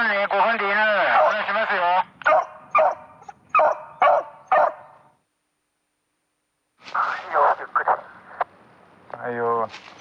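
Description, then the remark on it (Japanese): Excited hunting dogs, led by hunters walking the mountains searching for deer on a drive hunt, give a long wavering whine, then a quick run of sharp barks. After a short silence comes another burst of barking, ending with a high yelping whimper. “数匹の犬を引き連れたハンターたちが各自のポイントにつき、約4キロもの猟銃と狩猟道具を担ぎながら山の中を歩き回り、鹿を探していきます。”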